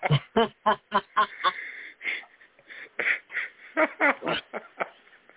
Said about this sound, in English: Ignore the bird behind the curtain.